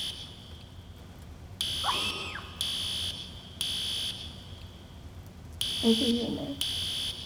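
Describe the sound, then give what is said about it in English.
A shrill, high-pitched lockdown alarm sounds in repeated long pulses with short gaps between them, steady and insistent, while voices speak briefly underneath. “There's a lockdown.”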